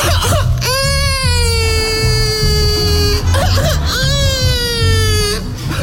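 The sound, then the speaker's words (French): A person imitates a baby crying with two long, loud wails, each sliding slowly downward in pitch, separated by a short pause, over a steady low background rumble. “Ah bah ouais, bah, y a le cri du cochon, y a aussi le cri du bébé.”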